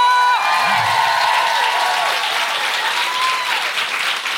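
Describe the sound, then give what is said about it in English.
A large live audience applauds the co-host Sophie Juker, clapping loudly and steadily, the dense clapping joined by a few cheers and whoops, holding at full volume for several seconds. “A huge round of applause for my co-pilot Sophie Juker!”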